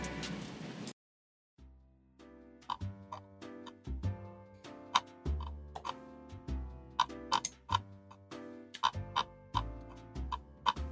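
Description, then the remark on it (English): A computer mouse scroll wheel clicks in quick, irregular bursts of sharp ticks over a low, steady tonal hum, after a short burst of hiss and a brief silence. “Does anybody have a scrolly mouse? Yes. I heard it.”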